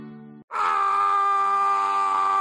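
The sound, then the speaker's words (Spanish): A brief low, groaning vocal sound gives way to a loud, sustained high-pitched scream that holds steady for about two seconds, piercing, with no talking. “¿Sientes el grito?”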